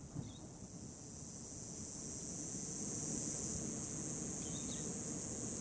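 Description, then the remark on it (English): A steady, high-pitched buzzing drone of cicadas after the rain of a monsoon storm ends fills the air without pause, over a soft low background rumble, growing slightly louder as it goes on, with a few faint bird chirps. “To the hum of cicadas when the rain ends.”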